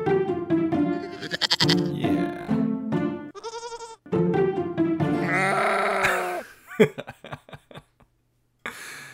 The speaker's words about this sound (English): We had secret milk goats in the backyard. Secret? Secret. We weren't supposed to have goats. Nice. Secret goats.